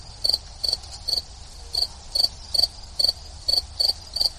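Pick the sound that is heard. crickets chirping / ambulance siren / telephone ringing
crickets chirping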